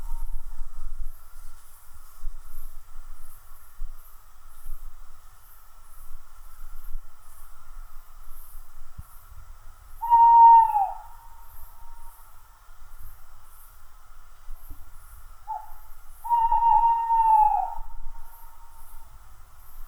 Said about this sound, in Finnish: lehtopöllö, niin se on, meistä on varmaan moni kuullut ja ihmetellyt, että mikä se on, mutta siis se on todella mahtava ääni, mikä siitä lähtee sitten, kun se huhuilee, jos nyt näin voi sanoa.